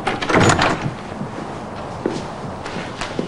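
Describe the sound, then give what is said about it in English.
A door is pulled open with a brief rattling clunk near the start, followed by a few soft shuffling footsteps and light knocks, with no talking; a man opens a door downstairs at night and a woman in a coat brushes in past him. “As he opens the door, Ellen brushes in past him, huddled in her coat.”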